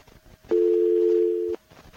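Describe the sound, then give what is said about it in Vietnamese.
A loud, steady telephone dial tone after a dropped call hums for about one second, starting and stopping abruptly, with only faint background noise around it and no talking. “Thế nhà mới gọi, sorry, bị cúp.”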